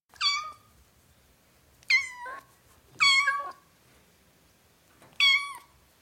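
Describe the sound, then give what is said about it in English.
A kitten meows four times in short, high-pitched, slightly descending cries, spaced unevenly with quiet pauses between them, clear, with no one talking. “As playful as a kitten.”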